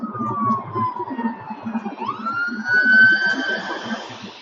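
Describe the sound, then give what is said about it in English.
An ambulance siren wails loudly behind a driving car, the ambulance running with its blue light on, its pitch gliding down and then sweeping back up, over a low rumble of engine and traffic noise. “Yes, definitely an ambulance.”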